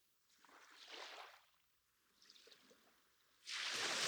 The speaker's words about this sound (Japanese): ほら、さっきまではここまで来てたのに、今度は手前で止まっちゃった。耳をそば立てると、波しぶきが砂浜に染み込んでく音も聞こえてくる。シュワシュワって。